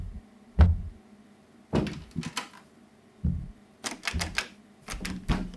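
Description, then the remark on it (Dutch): A door thuds shut, followed by a series of sharp metallic clicks and rattles, like a key turning and a lock being worked several times, with no one speaking; someone is locking people inside a storeroom. “De deur zit op slot. Joost, hij heeft ons opgesloten.”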